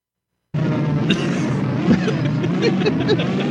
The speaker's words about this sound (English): Somebody needs to wind the rubber band in that warp engine.